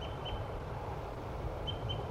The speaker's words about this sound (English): This could be a wild bird. Definitely a male bird. Either the decoy or the wild one.